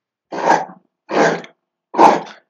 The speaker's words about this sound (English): Sorry. What was that? Dog's got a bone. I'm going to go and kick it out.